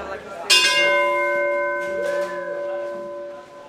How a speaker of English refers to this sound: He settles the crowd down so the bell ringing can begin. It's a tradition. When you lose a fisherman, you ring a bell in his honor.